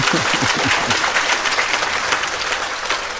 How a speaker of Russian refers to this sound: Это вы хлопаете за это мне.